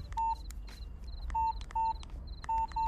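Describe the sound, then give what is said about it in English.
A quick run of telephone keypad dialing tones, short bright beeps pressed one after another in an uneven rhythm, heard clear over a low background hum. “Pick up the phone.”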